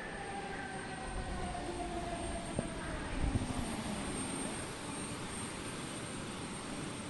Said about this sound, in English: After the plane pulls into the terminal, we wait for everyone else to get off before we gather our things and step out into the humid Queensland air.